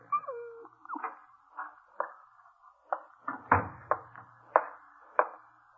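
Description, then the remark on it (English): A dog whines briefly, then lets out a run of short, sharp yips at a fairly steady pace, moderately loud, with no talking. “No, Dora, this dog doesn't like Mr. Burley's apartment here.”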